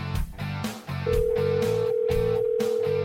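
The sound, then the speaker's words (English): A telephone rings as a steady, sustained electronic tone over a pulsing rhythmic music bed, fairly loud, with no one talking. “As our audience gets to hear the phone ringing, the telephone is ringing.”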